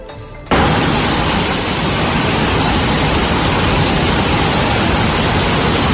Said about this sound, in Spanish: Así llovía sobre la ciudad papal, lo que obligaba al Consorcio Provincial de Bomberos a actuar en el achique de agua en algunos sótanos y calles anegadas,